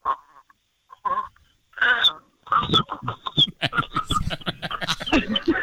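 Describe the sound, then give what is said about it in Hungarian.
Voices playfully imitate a little chick and a little frog talking to each other, trading quick bursts of squeaky high cheeping calls and lower throaty croaks with barely a pause between them. “A kis csirke és a kis béka beszélget.”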